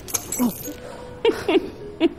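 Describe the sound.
Keys are tossed at a restaurant, jingling and clinking in a few short, bright bursts, with brief voice sounds mixed in between the jangles.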